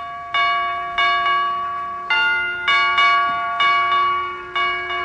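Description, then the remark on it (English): A door chime, pressed by Dr. Gamble, rings out a slow, solemn funeral-march tune: about eight clear, bell-like notes struck in sequence, each one ringing and fading, loud, with no voices. “Boy, what a sensitive door chime.”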